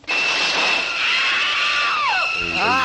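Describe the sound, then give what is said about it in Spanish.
A loud, nerve-grating shriek from a scene of the film Psycho holds steady for nearly three seconds, its piercing pitch sliding downward and then swooping back up in wavering sweeps near the end. “Ese sonido, ese chillido que crispa los nervios.”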